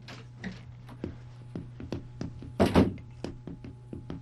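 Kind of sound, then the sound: household object, door being opened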